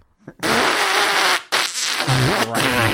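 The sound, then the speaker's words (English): A loud, sustained fart noise, sputtering and buzzing in several bursts with short breaks, prominent with no talking over it. “He wants to fart a bunch.”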